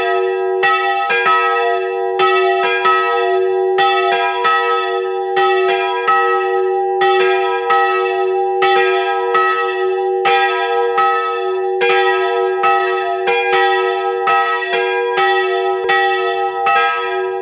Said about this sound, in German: Es ist 12 Uhr. Sie hören die Glocken der Wallfahrtskirche Hilkering in Oberösterreich.